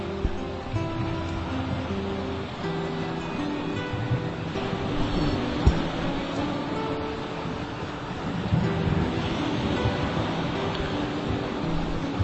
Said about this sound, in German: Du genießt diese Ruhe. Du genießt es, dem Element Wasser zuzuhören.